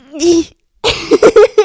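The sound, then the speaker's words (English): A voice imitates a stifled, held-in sneeze: a short rising squeak, a pause, then a quick run of four or five clipped, pinched puffs, fairly loud. “When people hold it in, they're like...”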